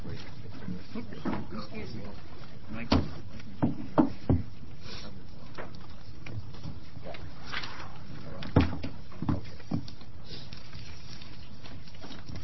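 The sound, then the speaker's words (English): A sharp wooden gavel bang closing a Senate committee work session on Senate Bill 10 stands out over a low murmur of voices, followed by a few scattered knocks and thumps as people shift and move about. “and then just with one bang of a gamble, it's gone.”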